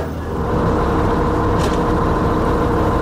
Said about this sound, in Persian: من تصمیم گرفتم برم ارمنستان واکسن بزنم و الانم با اتوبوس دارم میرم تبریز و از اونجا هم باید یه ماشین رو بگیرم و برم مرز نوردوست و از اونجا هم وارد خاک ارمنستان بشم.